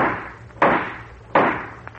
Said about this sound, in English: Sound effects, you ready? All set. Well, let's run through. Let's see, we need a judge's gavel.